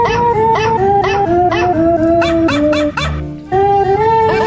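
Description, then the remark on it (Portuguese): A dog named Jupi howls in a studio in long, wavering tones that rise and fall in pitch as if singing along to the national anthem, loud, with a brief drop in the middle before the howling resumes. “Cachorro patriota.”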